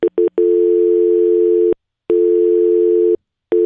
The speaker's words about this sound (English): That's, again, what I hear often when I call my house and try to talk to my husband. That dial tone.